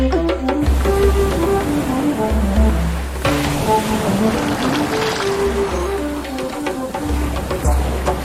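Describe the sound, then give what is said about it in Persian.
A steady wash of ocean waves surging continuously in the background, partly masked by a flowing melodic music score playing over it throughout. “اینو داشته باش، این آبه که شوره. این همونه که بهش میگن اقیانوس.”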